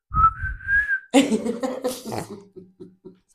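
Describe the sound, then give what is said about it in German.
A clear, high whistled phrase of a pop song melody glides slowly upward for about a second, then gives way to bursts of laughter or coughing and a few short, rhythmic low pulses. “Scheiß Rumgepfeife, kann ich abfüllen.”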